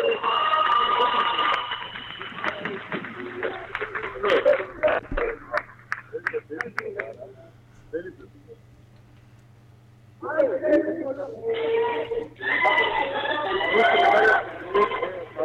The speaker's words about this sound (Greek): Εδώ ξεκινάει ο αγώνας με χειροκροτήματα και συνθήματα από την εξέδρα της έκρηξης. Θα τα αφήσω λίγο για να ακουστούν.